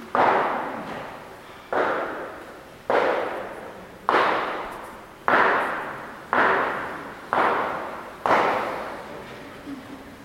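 A hammer drives nails into a wooden door: eight loud, evenly spaced blows about a second apart, each with a short ringing decay. No voices.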